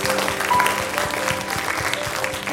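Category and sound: crowd, audience applauding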